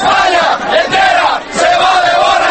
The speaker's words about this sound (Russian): «Чемпионы, чемпионы, оле, оле, оле!» выкрикивали испанцы свое традиционное приветствие спортсменам-победителям.